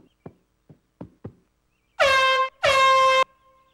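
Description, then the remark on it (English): A few soft knocks, then two loud, blaring air horn blasts in quick succession, the second held a little longer. The horn is harsh, with no voices. “Now, where's my giant foam cowboy hat and air horn?”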